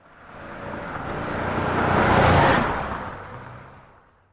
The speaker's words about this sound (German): Klar, das erkennst du sofort. So klingt ein Auto.